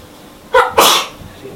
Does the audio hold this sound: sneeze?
yes